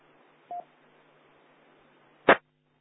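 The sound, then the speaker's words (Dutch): A single short telephone keypad tone beeps over a quiet hum, followed about two seconds later by a louder, abrupt burst like a button press or handset click. No one speaks. “Oh, ik heb mijn telefoon.”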